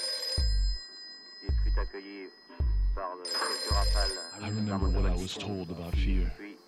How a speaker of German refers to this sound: Es kommt vor, dass das Telefon klingelt. Es ist nicht unnütz, darauf zu warten, dass es klingelt. Ein Telefon dient dazu, zu klingeln.